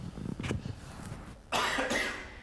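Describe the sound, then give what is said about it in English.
A single person coughs twice: a brief muffled cough, then after a pause a louder, harsh, breathy cough that lingers. “I'm trying not to cough.”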